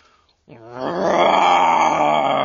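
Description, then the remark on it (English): A man lets out a long, swelling growl-roar in imitation of a lion, starting after a brief pause, rising in loudness and holding steady, rough-throated. “Can you imitate a lion?”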